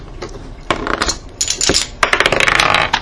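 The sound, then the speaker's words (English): Dice clatter and tumble across a hard table surface in a rapid burst of clicks and rattles during a game's attack roll, loud, settling after about three seconds with no talking; the roll comes up 20. “Yeah, that's an unnatural 20. I got him that time.”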